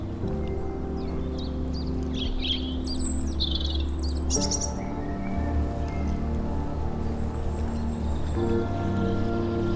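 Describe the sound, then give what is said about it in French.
Birds chirp and tweet in scattered bursts around a small coastal village in Brittany in spring as people wake up, over a steady low engine-like hum, the calls interwoven with a constant background drone. “Autour de ce petit village côtier, les gens s'éveillent au milieu des oiseaux.”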